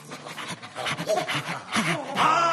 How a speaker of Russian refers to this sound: Впереди вынюхивали след полицейские ищейки.